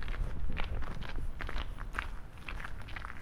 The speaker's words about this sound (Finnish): Kolmannella matkaviikolla lentävän hollantilaisen askeleissa kuuluvat paitsi vastaostetut liukuesteet, myös lisääntynyt määrätietoisuus.